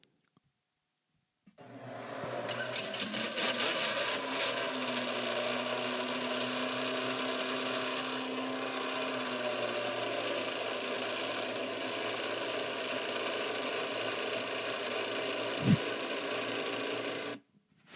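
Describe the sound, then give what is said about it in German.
A loud, steady whirring drone, a person's voice imitating a Formula 1 car engine held at high revs, runs unbroken for about sixteen seconds with a brief click near the end, then cuts off abruptly. “Das hätte jetzt wahrscheinlich so irgendwie ein Motor sein von einem Formel-1-Wagen, was jetzt leider nicht ganz übergekommen ist.”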